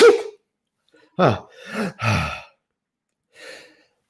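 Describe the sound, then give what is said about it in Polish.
A few sharp, noisy breaths build up and end in a loud, explosive sneeze. A soft exhale follows after a short pause. “Będę chyba musiał sobie kichnąć.”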